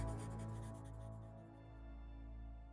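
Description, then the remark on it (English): Faint scratchy strokes of a pencil writing in a notebook in a prison cell, quick and repeated, over a low sustained musical drone. The scratching thins out after the first second or so. “Then Eric reaches into his jacket pocket, pulls out a pencil and notebook, and begins to write.”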